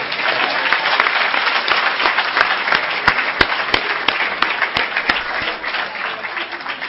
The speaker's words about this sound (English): All right, can we give all our speakers another round of applause?